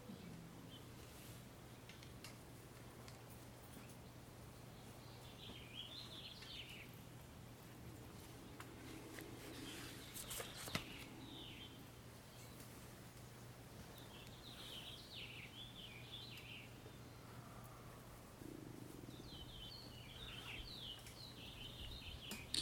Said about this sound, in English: Finch sings, and the turkeys bellow.